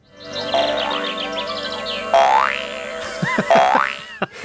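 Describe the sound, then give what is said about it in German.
Cartoon boing sound effects: a series of springy, wobbling twangs whose pitch swoops up and down, fairly loud, with quicker bouncy boings bunched toward the end and no talking; the sound Flip the grasshopper made on TV in the cartoon Biene Maya (Maya the Bee). “Er hat einmal so getönt am Fernsehen.”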